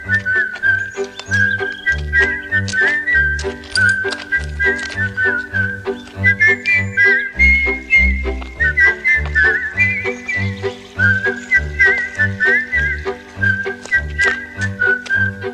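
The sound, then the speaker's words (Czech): A cheerful whistled melody carries over steady, bouncy musical accompaniment with a thumping low beat, the whistling clear and prominent throughout without any voices speaking. “Jedli, pili a zpívali či pískali si veselé.”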